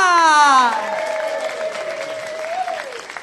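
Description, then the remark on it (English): An audience bursts into steady applause as a performer is welcomed to the stage, with a loud whooping cheer sliding down in pitch at the start and a sustained shout carrying over the clapping. “She's come all the way from Lancashire, so she deserves extra applause.”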